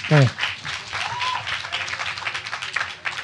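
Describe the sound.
An audience applauds, a dense, steady wash of many hands clapping that carries through the whole stretch, with a brief voice cutting in right at the start.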